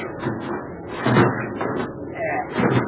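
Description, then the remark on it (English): A heavy metal watertight door to the next compartment is hauled open with grinding, clanking effort and a creaking scrape, loud, over a dense rumbling background with indistinct voices. “We'd open the watertight door to the next compartment there.”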